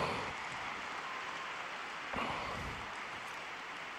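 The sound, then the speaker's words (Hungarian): A large crowd of pilgrims in an audience hall applauds Pope Francis for his words and catechesis, a dense, steady wash of clapping that holds an even loudness for about four seconds, swelling briefly midway before settling back. “Ezzel a tapssal köszönjük meg a 6. páteremben jelenlevő zarándokok Ferenc pápának a mai szavait, mai katekézisét”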